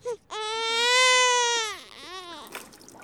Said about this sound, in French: Si on avait enregistré un bébé qui pleurait.